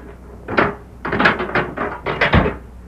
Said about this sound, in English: That evening, Sheriff Matt Gorman went to Deke Bauer's cell and unlocked the door.